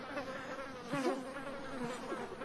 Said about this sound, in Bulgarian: Какво чуват ушите ми? Дивите пчели?